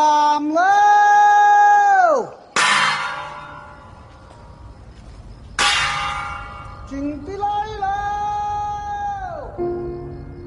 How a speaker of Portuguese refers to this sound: o filme ganha ainda um toque único por exibir os usos e costumes dos habitantes do sul da China, como o som de gongo, que alertam as pessoas para tomar cuidado com o risco de incêndio durante a noite.